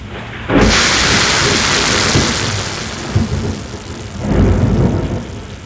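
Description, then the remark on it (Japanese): A sharp thunder crack bursts out and rolls into a long, loud rumble over steady heavy rain, with a second rumbling swell near the end, as the centre of a storm cloud comes overhead. “もっとビンビンに雷を受けて、おちんぽをビリビリと感電させるんだ。”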